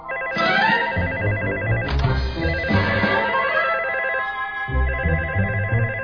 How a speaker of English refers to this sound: The phone.